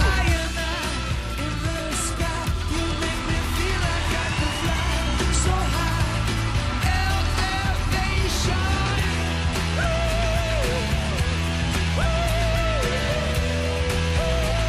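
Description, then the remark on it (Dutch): A huge concert crowd of tens of thousands of frenzied fans with hands raised above their heads roars without pause, a dense wall of cheering and screaming with shrill whistles cutting through now and then, loud for the whole stretch. “Tienduizenden uitzinnige fans. Een dubbel aantal handen die ver boven de hoofden uitsteken. Gefluit, gejuicht, geschreeuw!”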